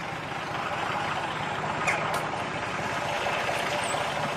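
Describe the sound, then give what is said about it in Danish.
A bus engine rumbles steadily as a passenger gets off the bus, a dense low drone with a faint hiss of air, continuing without pause and with no talking. “Nu står jeg af bussen ude foran ruten.”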